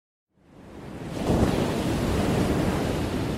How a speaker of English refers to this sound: we just heard a piece by …, which features a chorus of water that includes the Catskill Creek, Du Bois Creek, Thorpe Creek, Bowery Creek, Shinglekill, Catterskill Creek, the Hudson River, and a few unnamed ponds.